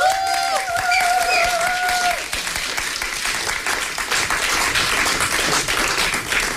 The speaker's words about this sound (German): Und bevor wir hier an den Start gehen, vielleicht noch einen kleinen Applaus für unseren DJ